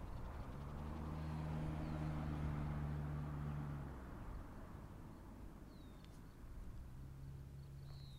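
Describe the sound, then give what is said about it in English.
A big truck's low, droning engine rumbles for several seconds, fades away, then swells again near the end. Underneath is a steady outdoor hiss and the faint crunch of someone walking on gravel to a gravesite. “Okay, this is walking on gravel to the gravesite with a big truck.”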